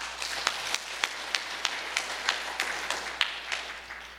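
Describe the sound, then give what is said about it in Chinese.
A church audience applauds steadily, a dense wash of many hands clapping with a few sharper claps standing out at a fairly regular pace, moderately loud throughout with no voices. “刚刚大家欢迎了我，我们用比这个大至少10倍的热力劲儿，给我们的上帝，给我们的耶稣，给我们的圣灵，给一个极大的掌声好不好，我们欢迎他。”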